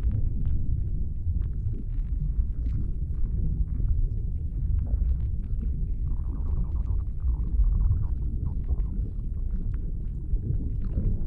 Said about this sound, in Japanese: お腹がゴロゴロってなるたびに、体の奥がキュンって薄いて。